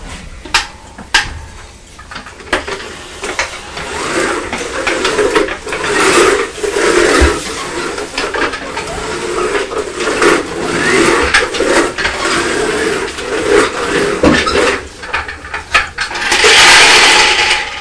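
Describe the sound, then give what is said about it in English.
A steady mechanical rattling and whirring of toy train wheels going round through a tunnel runs continuously, dense and fairly loud, with small clicks and clatters throughout. No one speaks. “It's the sound of the wheels going round.”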